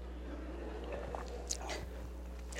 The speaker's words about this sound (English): I don't know whose water this is, but I'm going to drink it, okay?